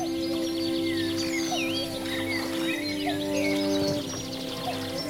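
Several birds sing and chirp continuously in a layered outdoor chorus, with a soft, steady wash of lake water lapping beneath them and no one speaking, on the calm Attersee at the mountaineering village of Steinbach in the morning sun.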